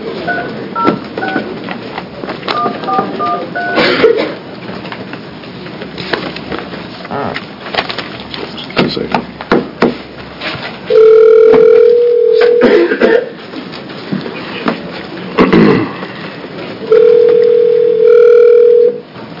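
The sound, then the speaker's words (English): A telephone line rings with two loud, steady electronic tones, each lasting about a second and a half with a long pause between, after a stretch of clattering, rustling handling noise, as a House Rules Committee hearing calls a speaker. “If you want to dispense just one moment, Representative Kump, so you don't have a ringing sound while you're talking.”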